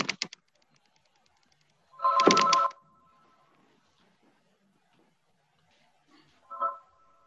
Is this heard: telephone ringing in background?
yes